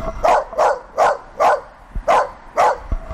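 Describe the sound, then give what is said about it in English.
A dog, recorded with a directional microphone pointed at it, barks repeatedly in a steady rhythm, six sharp barks over a few seconds, loud, with no one talking. “Just to show you a directional microphone, I'm just going to point out this dog.”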